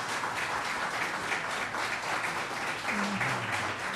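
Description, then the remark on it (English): An audience applauds a panel steadily for four seconds, a dense, even wash of many hands clapping with no break, and a faint voice or tone briefly rises under it near the end. “Let's have a big round of applause for our panel tonight.”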